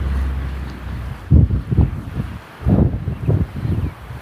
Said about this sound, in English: I apologize in advance. It is windy as all get out here.